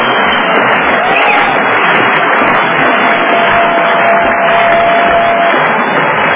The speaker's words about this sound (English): Now let's hear a roar.